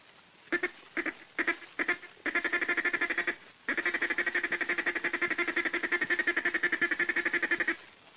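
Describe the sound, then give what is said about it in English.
A duck call blown to make a feed call: a few separate short quacks, then a rapid, even stream of clipped clucking notes for several seconds, a brief pause, and more fast chatter. “Next is the feed call. Say ticka, ticka, ticka, ticka, ticka, ticka, ticka, ticka. Now with your duck call.”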